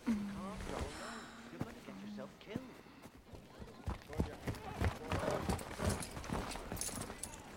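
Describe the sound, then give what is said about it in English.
Horse hooves clip-clop in a steady rhythm, growing louder as a rider arrives on horseback, with a brief voice-like tonal sound near the start. “Later, he stands in the path of Matthias, who arrives on horseback.”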